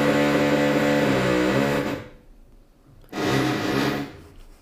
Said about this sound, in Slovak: Ale tak keď vŕtaš, tak čo vŕtaš? Iba diery, nie? Mm-hmm. Čo, tak čo tu môže toľko vŕtať?